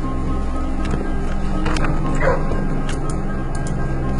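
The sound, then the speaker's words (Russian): Beagles bark and yip in short, repeated bursts over a dense, steady background rumble, with several sharp barks clustered close together and no talking. “Пойду помацаю собачек. Бигелей.”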